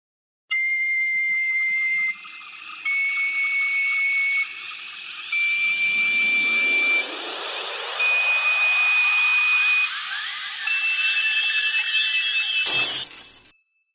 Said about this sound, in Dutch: Misschien een blokfluit? Ongehoord. Hoorde je dat? Een blokfluit om de vogels te verjagen.